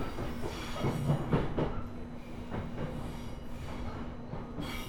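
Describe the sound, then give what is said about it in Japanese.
A steady rumble of a JR East Tohoku Line local train bound for Koriyama, Japan, moving along the rails toward Minami-Fukushima station, with a low droning hum and occasional rhythmic clacks of the wheels over track joints, continuous throughout. “This is a Tohoku Line train bound for Koriyama.”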